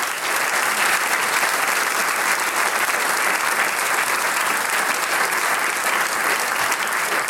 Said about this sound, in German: Das ist auch ein extra Applaus wert, glaube ich.